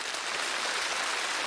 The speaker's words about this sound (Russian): Пожалуйста, поднимайтесь. Аплодисменты этим смелым, отчаянным людям.